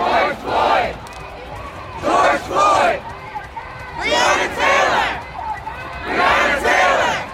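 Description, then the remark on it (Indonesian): A large crowd of thousands of protesters chants in unison against racism and police brutality after George Floyd's death. Loud rhythmic bursts of shouting repeat about every second and a half, with a steady murmur of voices filling the gaps between chants. “Ribuan orang berunjuk rasa di Washington, di kota-kota lain di Amerika dan di seluruh dunia Sabtu menentang rasisme dan kebrutalan polisi setelah kematian seorang laki-laki Afrika Amerika dalam tahanan polisi hampir 2 pekan lalu.”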